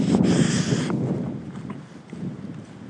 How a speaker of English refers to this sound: You can hear us over the wind and the rain.